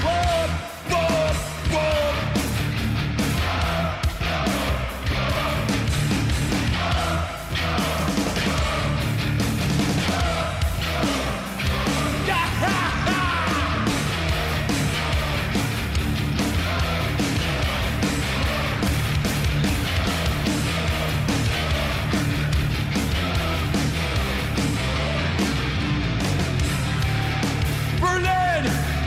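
A loud, dense live heavy metal performance by a band on stage in a hall, with pounding drums and distorted electric guitars driving steadily throughout, while the crowd dances, yells and roars along over the music.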